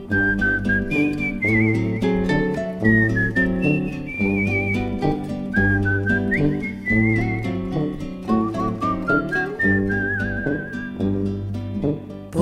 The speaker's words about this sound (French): Somnole, à jouer les rossignols, sifflotant mes refrains pour rien.